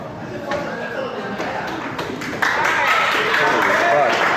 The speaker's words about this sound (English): Oh. He couldn't even hear his applause because he's not in the building anymore.